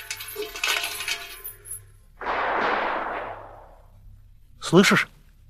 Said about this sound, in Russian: Слышишь? Что это за стрельба?